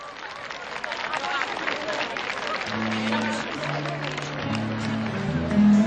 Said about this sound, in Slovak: Milí priatelia, privítajte nášho hudobného hostia veľkým potleskom.